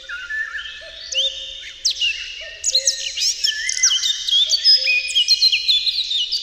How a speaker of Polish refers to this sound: Echem dalekich tropików jest przepiękny, melodyjny flet wilgi.